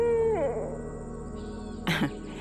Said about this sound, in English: Later in the evening, as it started to get dark, this owl kept returning to my yard.